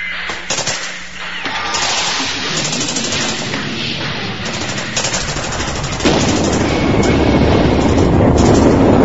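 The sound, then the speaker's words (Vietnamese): Dense, continuous barrage of booming artillery explosions and rapid gunfire, loud, as shells pound down on a small village engulfed in blasts and fire, thickening into a heavier rumbling roar in the final seconds; no voices. “Trút xuống như mưa, pháo dập xuống như chày giả gạo. Bà Râu, cái làng vô danh nhỏ bé, bị chìm trong tiếng nổ và ngập trong lửa cháy.”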